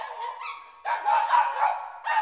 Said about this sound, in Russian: Я проснулся от лая соседской собачки. Гнусная тварь.